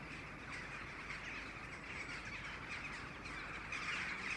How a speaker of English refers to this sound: About 7:30 in the evening and the rooks are just starting to gather.